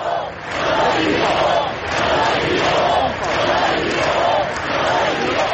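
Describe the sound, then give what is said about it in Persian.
A crowd of thousands in the main streets of Barcelona, gathered alongside Spain's prime minister and king after deadly attacks, claps and chants "we are not afraid" in steady rhythmic bursts, with the clapping mixed into a loud, dense roar of voices that fills the whole stretch. “در حالی که راننده خودرو همچنان فراری بود، هزاران نفر در خیابانهای اصلی بارسلون گرد هم آمدند و در کنار نخست وزیر و پادشاه اسپانیا یک دقیقه سکوت کردند و سپس با دست زدن فریاد کشیدند که ما نمی ترسیم.”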